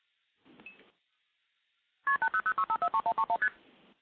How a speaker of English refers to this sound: So we hear some MF digits, and now we'll hear constant ringing. The ringing will eventually time out, and you can actually seize the trunk at any point.